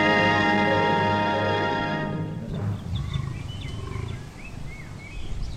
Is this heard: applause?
no